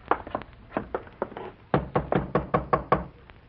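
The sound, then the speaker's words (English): A series of sharp knocks on a wooden door, first a few scattered raps, then a louder, steady run of about eight evenly spaced knocks, clear with no voices. “Knock again.”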